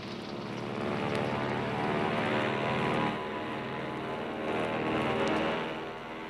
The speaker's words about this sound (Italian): Ci troviamo a bordo di uno degli apparecchi degli Hurricane Hunters in procinto di partire per, non ridete, per un tifone. Questa, infatti, è la nostra rischiosissima meta.